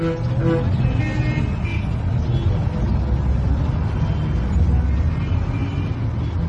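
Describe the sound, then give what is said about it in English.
Dense, steady roar of road traffic at a busy junction opposite Bombay University, with engines rumbling and a few short horn toots cutting through near the start. “I sit next to a poster seller at a busy traffic junction opposite Bombay University.”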